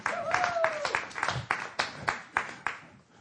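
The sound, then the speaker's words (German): One person claps about ten times in a steady, fairly quick rhythm, each clap sharp and crisp, with the last few claps spaced out and fading toward the end. “Die klatscht, weil ich sage, ich bin verheiratet oder fängt.”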